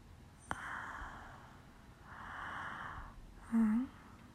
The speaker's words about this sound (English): What? I'm just breathing. I'm literally just breathing. What do you mean? Like that?